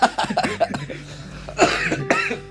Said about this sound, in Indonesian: Gue langsung sakit batuk.